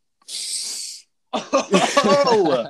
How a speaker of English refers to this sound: Excuse the sniffles again, guys.